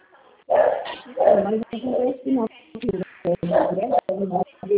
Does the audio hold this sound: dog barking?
yes